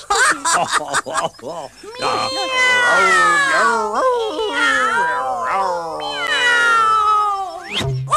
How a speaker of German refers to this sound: Na, die Katze? Miau?